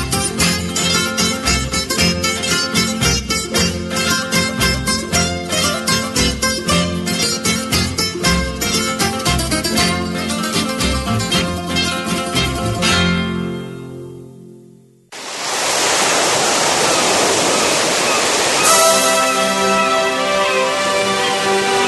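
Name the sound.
rushing floodwater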